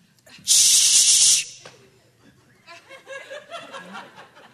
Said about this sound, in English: The brave citizens of Eureka formed a posse. Oh-wee-oh. Yo! With torches. Oh. Rifles. Fly swatters. And bug spray.